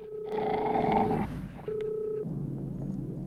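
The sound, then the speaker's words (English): A dog named Sally growls low and rumbling in two bursts, the first about a second long and the second shorter, as a queen is taken in a chess game, mixed with steady electronic-sounding tones, with no talking. “When Hector snaps Adam's queen, which he's just taken, Sally growls.”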